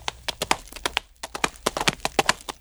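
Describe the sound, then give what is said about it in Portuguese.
Hooves of horses ridden by a bride and groom crossing the Serra do Rola Moça clip-clop at a steady walking pace, a quick run of sharp knocks with a brief pause partway through, then the rhythm resumes. No voices, just the clattering steps. “E atravessaram a serra, o noivo com a noiva dele, cada qual no seu cavalo.”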